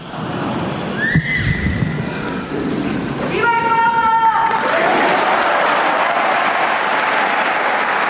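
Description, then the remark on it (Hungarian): A huge round of applause from a large audience thanking the Pope for his catechesis, a dense steady roar of clapping that swells and keeps going, with brief whistle-like tones and a sharp whoop rising over it partway through. “Hát ahogyan szokták, egy hatalmas nagy tapsviharral megköszönik a Szentatyának a mai katekézisét, köszöntéseit”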